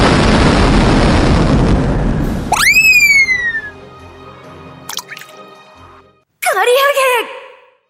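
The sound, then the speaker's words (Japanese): A loud, roaring explosion fills the first couple of seconds with dense rumbling noise, then gives way to bright ringing, swooping tones and short sparkling bursts. “なんだ今の爆発は！”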